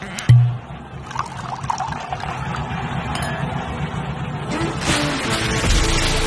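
Liquid pours steadily into a glass, a continuous gurgling trickle lasting several seconds, close by, with a brief clink at the start and faint room background underneath.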